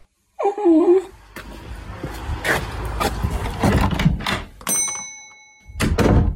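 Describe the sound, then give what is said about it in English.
A dog gives a short, rising whimper as it is taken out to the corner shop, then a door bangs shut with heavy thuds and rattling, followed by a few more knocks and scuffs. “Can you get some milk and take the dog with you?”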